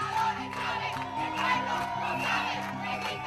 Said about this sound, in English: Hundreds of students were out protesting down one of the biggest streets in Caracas, shouting, "Chavez is a dictator, and the people know it."